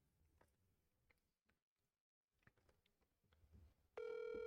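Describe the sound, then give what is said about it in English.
A phone call on speaker: a few scattered taps and clicks, a brief near-silence, then a loud, steady electronic ringing tone starts abruptly at the end and holds. “My phone ain't been calling people.”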